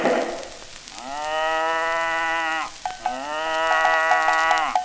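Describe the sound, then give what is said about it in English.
A cow moos twice, two long, drawn-out lows, fairly loud, separated by a short pause, with no other sounds around them. “Bossy cow, bossy cow, where do you lie? In the green meadow under the sky.”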